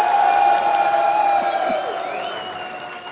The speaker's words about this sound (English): Yeah, you need a round of applause too.